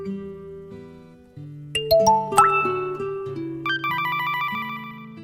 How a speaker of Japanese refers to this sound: 主人公の携帯電話がまた鳴りました。